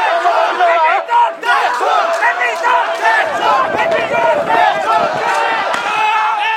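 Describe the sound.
A large protest crowd, on the first day of demonstrations around midday, advances toward the Parliament with arms raised, shouting and chanting in unison to demand the Prime Minister's resignation; a loud, continuous mass of raised voices with overlapping cries and rhythmic bursts, sustained throughout.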